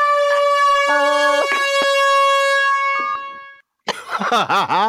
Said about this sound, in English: I've got my air horn.